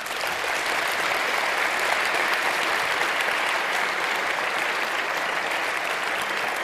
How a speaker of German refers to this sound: gebt ihm einen herzlichen Applaus.